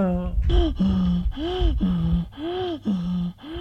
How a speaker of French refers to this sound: Dès qu'elle a remis l'oxygène, sa respiration devient rapide et forte. Il reprend des couleurs. Sa poitrine se gonfle. Sa respiration est très forte. Puis, elle devient normale.